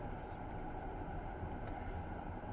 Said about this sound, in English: It's all these cars turning right, and I'm in the right-hand lane.